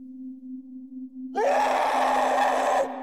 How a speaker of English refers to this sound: That's when we heard the first blood-curdling scream tear through the silence. We all froze. Seconds later, another scream, more piercing and sustained than the last, filled the air. The screams continued for a long while